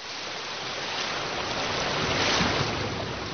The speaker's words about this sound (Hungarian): Hallgasd a tengert!